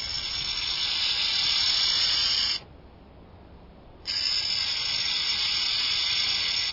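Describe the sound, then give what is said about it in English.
A burrowing owl hisses like a rattlesnake: two long, loud, buzzy rasping hisses, the first about two and a half seconds, a short pause, then a second of similar length and steady intensity. “Because as well as its double hoots and other calls, the burrowing owl is known for this hair-raising sound.”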